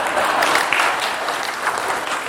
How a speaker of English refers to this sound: 41 is exactly right. Well done. Round of applause.